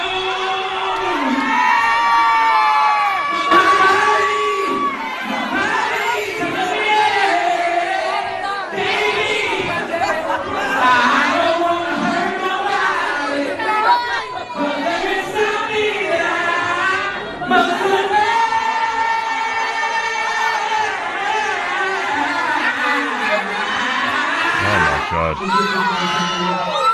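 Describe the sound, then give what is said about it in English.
A dense crowd, mostly young women, at an Illinois nightclub roars continuously for the whole stretch of a 28-second live performance, with overlapping cheers, whoops and excited shouting, loud and steady with no break. “But who's cheering?”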